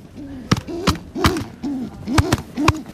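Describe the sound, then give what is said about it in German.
A defensive pigeon in its nest, which holds an egg, pecks at a gloved hand reaching in, giving a series of about six short, low, rising-and-falling coos in a steady rhythm, clear, each paired with sharp slapping clicks. “Hier haben wir eine ganz wehrhafte Taube, die mich auch gerade in den Handschuh zwickt.”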